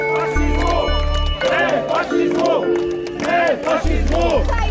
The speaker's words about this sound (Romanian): Demonstranții au salutat gestul unui activist care a urcat pe schele și a dat jos prelata. Apoi i-au huiduit pe polițiștii care l-au reținut.